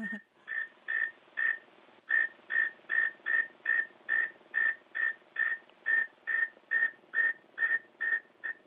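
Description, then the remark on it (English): The song of a male northern mole cricket, which lives in underground burrows and calls from the burrow's edge: a steady series of about twenty short, mid-pitched chirps, each roughly a third of a second apart, fairly loud and evenly paced, with no voices. “This is the northern mole cricket.”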